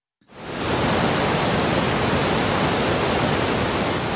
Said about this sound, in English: Recognize the sound of that? It's the intoxicating sound of water gushing down Shohola Falls in Pike County, Pennsylvania.